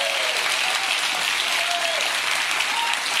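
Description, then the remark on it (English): Sustained, dense applause from a large audience, steady and loud throughout with no pauses, a few faint whistles or cheers rising through the clapping. “Listen to the crowd.”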